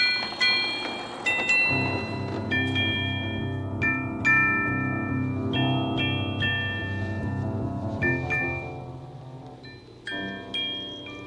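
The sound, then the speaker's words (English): A steady rush of rain with a deep, rolling rumble of thunder underneath, joined by bright ringing tones that strike every second or two. No one speaks. “Even a storm in the neighborhood of make-believe.”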